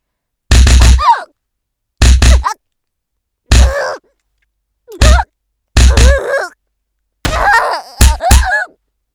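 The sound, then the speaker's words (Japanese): About six heavy thuds of punches landing on a body come in irregular bursts, each followed by short pained grunts and groans, with a quick double hit near the end. “パンチってのはね、こうやって打つのよ。”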